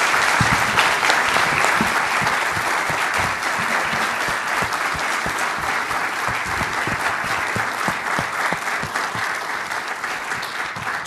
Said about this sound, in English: What a great conversation. What about a round of applause there?